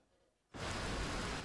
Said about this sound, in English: Rain pours over London